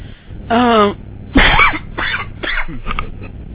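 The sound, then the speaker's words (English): A person coughs and gags: a strained, voiced retch, then a loud harsh cough burst followed by several shorter rough hacks over a few seconds. “Cough, cough, gag.”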